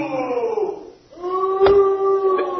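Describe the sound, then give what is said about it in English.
Two drawn-out cow moos, the first sliding downward in pitch, then a brief pause before a second, steadier, sustained moo. Both are loud, with no talking over them. “And cows disagree with me.”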